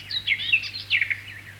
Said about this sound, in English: Listen to the song of the garden warbler.